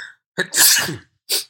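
A single loud sneeze: a quick sharp intake, then a bursting explosive blast, followed by a brief breathy sniff. No talking.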